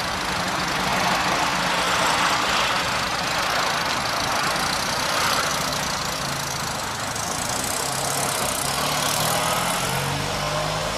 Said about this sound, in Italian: Rombavo forte col mio motore, sentivo la neve sotto le ruote.